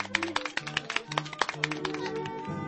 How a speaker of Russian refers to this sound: Встречайте аплодисментами.